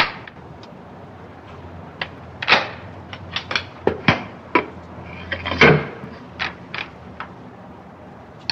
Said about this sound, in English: Max grimaces with frustration as the lady goes through a complex unlocking procedure.